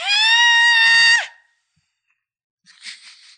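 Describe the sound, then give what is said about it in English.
A person screams a single piercing, very high sustained note for over a second, loud, dropping off abruptly at the end; after a pause comes a short breathy burst. “And I called it up with a high note, super high note.”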